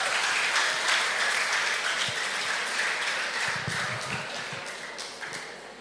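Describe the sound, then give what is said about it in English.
Steady applause from a crowd welcoming guests from the Netherlands who will serve as nurses in a clinic, dense overlapping hand claps at a fairly loud level, slowly tapering off toward the end, with no voices heard. “Let's give them a hand clap.”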